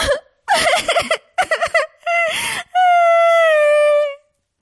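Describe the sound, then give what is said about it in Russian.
A voice imitates a girl, Alice, a story character, bursting into tears: a few quick, choppy sobs followed by a long, wavering high wail, fairly loud, with no words spoken. “И вдруг заплакала.”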